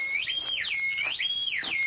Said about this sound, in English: As Ben drew near the house, a whistle broke the stillness of the night.